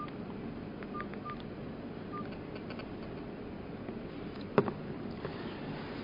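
A few short telephone keypad dialing beeps sound at uneven intervals over a steady low background hum, followed by a sharp click; no one speaks.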